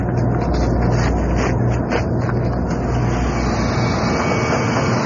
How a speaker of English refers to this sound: And just listen. That deep rumbling is water from Les Bottom Pond coming through the big pipe, heading to the steam engines.